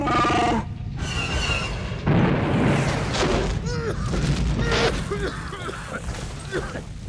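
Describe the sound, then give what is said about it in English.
A hunter-killer droid's cannon blast bursts out and blows a big hole in a cell wall, crashing into a rumbling, crumbling roar of debris, mixed with harsh growling cries and bleating-like vocal calls that continue over the fading noise. “All they did was blow a big hole in the wall of our cell.”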